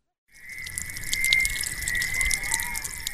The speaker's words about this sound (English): A stream flows from a river near Hobeni.